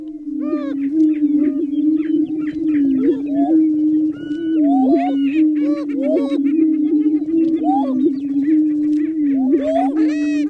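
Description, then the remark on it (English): Prairie chickens, an endangered species, booming in a mating-ritual chorus, heard from Maya Lin's What is Missing? Listening Cone in San Francisco: a steady, low, hollow moaning hum runs throughout, overlaid with many whooping, cackling and chirping calls that rise and fall, loud and continuous with no talking. “A little bit of this one's an endangered species, one of those, the sound of which comes from the cone, the mating ritual called booming of the prairie chicken.”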